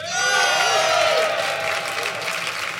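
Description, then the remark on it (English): A Latitude audience applauds steadily, dense clapping with a few cheers and whoops rising over it early on, then settling into sustained, even applause. “I call upon our Latitude audience to decide. So if you think Ben and Steve, and therefore Tom, is in the right, I would like you to applaud now”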